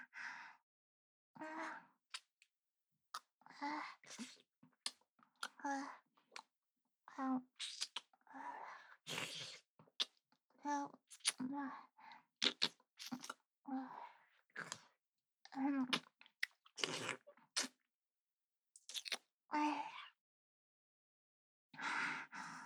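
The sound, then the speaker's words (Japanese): Wet, close-up licking and smacking mouth sounds of an ear being licked repeat in irregular bursts, with soft breaths and brief pauses between them; no one speaks. “じゃあもっとペロペロするにゃ。”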